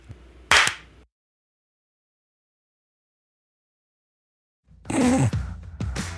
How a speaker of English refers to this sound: we sync by going to time.is, and then we pick a second to clap on.